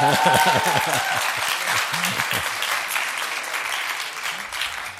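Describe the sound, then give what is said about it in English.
A crowd cheers and applauds loudly, a dense wash of clapping with shouting voices mixed in, holding steady for several seconds before easing slightly toward the end. “And the crowds went wild.”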